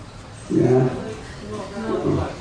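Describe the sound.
A person's voice imitates a lion's roar in two low, rumbling growls, a longer one followed by a slightly softer second, moderately loud.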